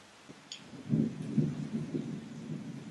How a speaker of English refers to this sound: Can you hear the rain? I'll be quiet for a moment.